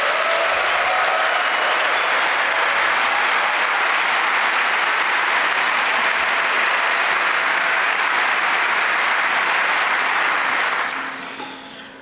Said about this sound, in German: Wir möchten mit einem kleinen Wort des Dankes an die Haustechnik eröffnen, die es uns hier ermöglicht, zu so später Stunde noch so lange zu machen. Vielleicht einen kleinen Applaus für die Haustechnik.